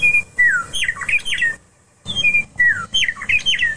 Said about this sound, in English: Folks, having grown up on the slice of the geography that lies between the peaks of the Rocky Mountains and the grasslands of the high prairie, I learned at a very early age to take great joy in the song of the meadowlark.